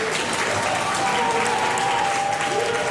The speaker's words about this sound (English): You can hear the crew at NASA cheering, of course. The successful separation of the launch stage.